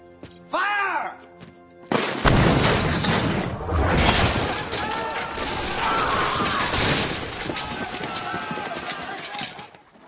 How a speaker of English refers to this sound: Fire the cannon.